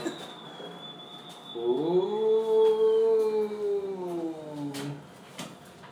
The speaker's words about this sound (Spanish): Porque vamos a coger el ascensor. Es el ascensor del miedo, Fíjate que. Sí, tiene este ruido.